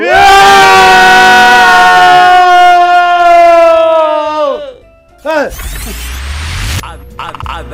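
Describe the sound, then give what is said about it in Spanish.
A group of people yells together in a ten-second shout, one long, loud, sustained yell that slides down in pitch as it trails off, followed by a shorter burst of shouting and rough noise. “Son 10 segundos de grito.”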